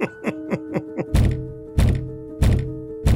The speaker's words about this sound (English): he hasn't got his fucking key, and spends the next 7 minutes banging his head against a closed door.